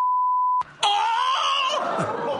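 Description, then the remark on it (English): A steady, clean censor beep tone covering a swear word lasts about half a second, followed after a brief gap by a loud, strained vocal cry that continues to the end. “Oh, I think it would be a beep.”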